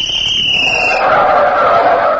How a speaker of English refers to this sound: I remember I used to hide in the bushes on the corner of the schoolyard during recess and give a blast of my whistle, which sounded like a police whistle, to passing motorists.